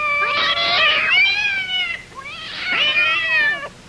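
Two long, wailing yowls from the cats Buff and Tabby rise and fall in quick succession, loud, with strong harmonic howling and no talking over them.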